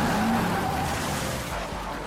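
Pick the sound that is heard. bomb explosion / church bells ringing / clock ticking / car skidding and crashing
car skidding and crashing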